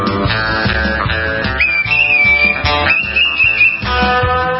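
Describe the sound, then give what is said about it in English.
A whistled melody rides high above a full band backing, with sustained, slightly wavering notes held over steady rhythmic accompaniment. No one speaks. “Watch out for the whistles.”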